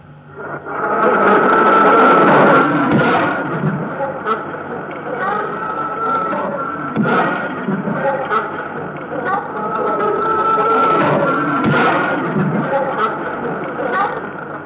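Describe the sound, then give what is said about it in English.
A jarred bee colony, a normal colony not preparing to swarm, gives short, sharp, violent hisses, each ceasing within about a fifth of a second, a few abrupt bursts over a steady, dense buzzing drone. “It is a short, sharp, violent sound which ceases within about a fifth of a second and is quite typical of a normal colony, that is, one not contemplating swarming.”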